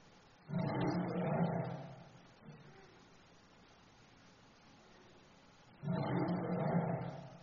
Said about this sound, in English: And now you have the roar of a lion.